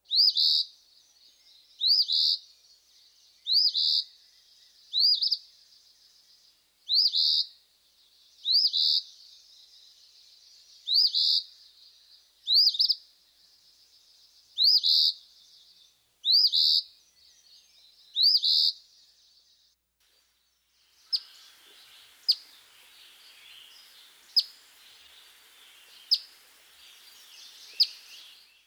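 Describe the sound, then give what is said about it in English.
A male Eastern Phoebe singing a series of harsh, buzzy two-part phrases at a steady pace, then switching to sharp, flat single call notes spaced a couple of seconds apart. No talking. “Listen to the harsh song of the Eastern Phoebe, followed by a series of his flat call notes.”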